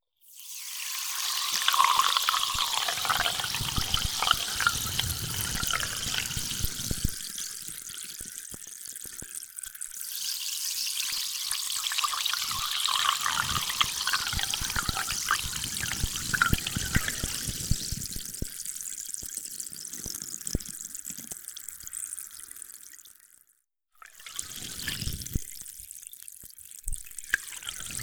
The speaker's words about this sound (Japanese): マッサージが終わりましたので、お耳についたローションを流させていただきます。高い洗浄力と音によるリラックス効果があるので炭酸水を使用していきます。まずは泡のキメが粗い炭酸で流していきますね。